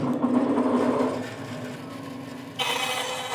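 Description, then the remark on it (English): A bandsaw hums steadily with a low motor drone, then its tone shifts into a harsher, hissing rasp as master luthier Enrico Alorto slices its blade through a coloured wooden plank in a small workshop on the outskirts of Milan, Italy, with no talking. “In a small workshop on the outskirts of Milan, Enrico Alorto leans over a bandsaw and slices carefully through a coloured plank of wood.”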